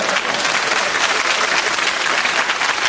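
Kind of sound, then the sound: crowd, audience applause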